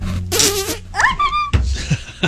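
A close, loud fart sputters out in several bursts, one stretching into a squeaky, whining tone, with no one speaking.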